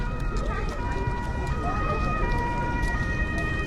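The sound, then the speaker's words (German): An ambulance siren, from a rescue ambulance called by a lifeguard team for a swimmer with a foot injury and an allergic reaction, sounds continuously at moderate volume, its tones holding steady over a dense, rumbling background of outdoor noise. “Weil sein Körper jedoch allergisch reagiert, ruft das DLRG-Team lieber den Rettungswagen.”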